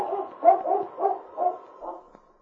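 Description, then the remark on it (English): A dog named Whitey, hair bristling, barks fiercely on a trail, a quick run of about five harsh, growling barks that taper off at the end, with no voices. “And then, with a savage bark, Whitey turned and headed up trail.”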